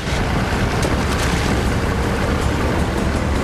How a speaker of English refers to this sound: She stares in dismay as the engines fire up. As the boat pulls away, she swiftly makes a decision and leaps from the harbour side onto the rear ledge of the boat.